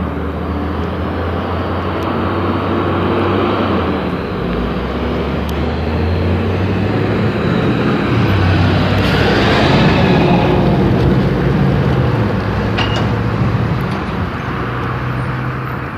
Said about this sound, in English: Trash truck.